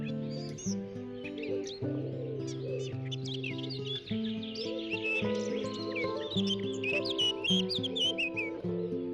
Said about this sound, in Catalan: Aquestes calors que fa, és refrescant sentir aquests ocells i passejar per sota dels arbredes.